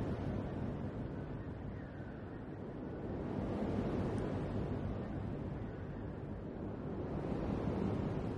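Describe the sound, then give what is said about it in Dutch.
A steady, rushing roar of sea surf, waves breaking on a beach, swelling slightly partway through. The wash is continuous, with wind-like noise and no voices. “Je hoort de zee. De golven. Het geruis van de branding.”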